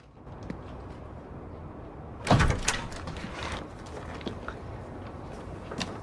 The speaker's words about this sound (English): Claire stands outside Peter's apartment door. She checks a slip of paper, then knocks.